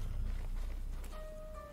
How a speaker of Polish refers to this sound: Co to? A to jest ognisko.